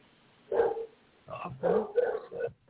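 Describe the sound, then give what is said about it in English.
A dog barks and yips in a quick series of moderately loud bursts: one short bark, a pause, then several rapid barks in a row. “A real dog. A real live dog.”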